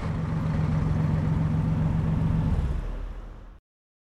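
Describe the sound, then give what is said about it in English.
A large bus engine idles with a steady, low, throbbing rumble for about three and a half seconds, fading slightly before cutting off abruptly. No voices are heard. “The bus is here.”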